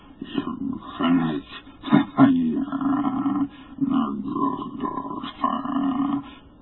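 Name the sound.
hideous croaking roar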